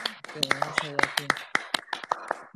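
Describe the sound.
Scattered applause from a small group, sharp irregular claps continuing for a couple of seconds, with voices talking over the first half before the clapping carries on alone.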